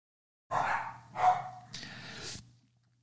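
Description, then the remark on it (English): Dogs barking at delivery people arriving, in a quick burst: two sharp, loud barks followed by a rougher, breathy bark-growl, all within about two seconds, with no talking. “It's a delivery moment, so they have to let the delivery people know they're here.”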